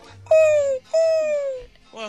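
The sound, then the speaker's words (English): A person imitates an owl with two long, loud hoots, each held for about half a second and sliding slightly downward in pitch, followed by a short vocal sound. “But it's an owl.”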